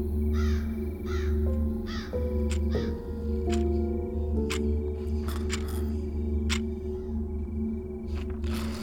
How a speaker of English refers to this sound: Up by the house, a crow kept calling to its companions, more aware than the humans that there was something in their midst that shouldn't be.